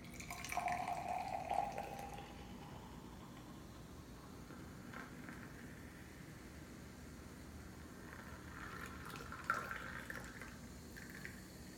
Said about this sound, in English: I got me my little wine glass, little portable joint. But what I'm going to do, I'm going to check it out. Let's pour it in.